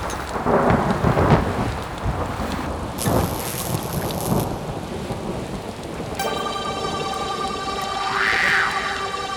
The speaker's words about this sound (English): Pouring rain, thunder and lightning